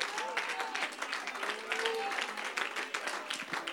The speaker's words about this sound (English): Oh, clap your hands and magnify the Lord today.